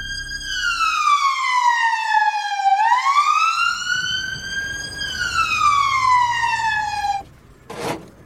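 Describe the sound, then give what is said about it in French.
A British police siren wails loudly as police arrive at the scene, its pitch sliding down, sweeping back up, then falling again in slow cycles, with traffic rumble underneath and a brief sharp noise at the end. “La première chose que font les policiers de sa gracieuse majesté quand ils arrivent sur place, c'est of course d'arrêter le propriétaire.”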